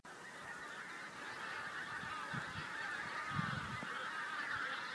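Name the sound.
geese honking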